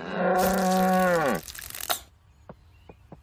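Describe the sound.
A person imitates a cow, letting out a single long, loud moo that falls in pitch at the end, followed by a few faint clicks in the quiet afterward.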